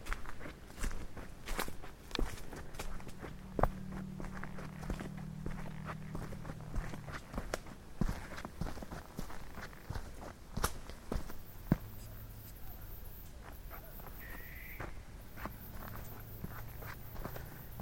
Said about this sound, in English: So, I'm going to turn the headlamp back on, and I'm going to walk.